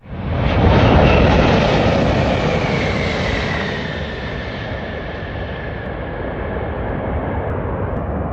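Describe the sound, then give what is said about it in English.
A Lufthansa Airbus A380, the biggest passenger jet in the world, lands at Denver International Airport, roaring loudly: a broad rumbling engine noise with a whining tone sliding downward, swelling at first then settling into a steady, slightly softer drone as it passes and slows. “Out here on the taxiway at Denver International Airport, we just watched the biggest passenger jet in the world land with the Rocky Mountains behind them.”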